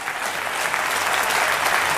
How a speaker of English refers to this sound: And the fire of the Holy Ghost is in your heart. Give a fiery clapping.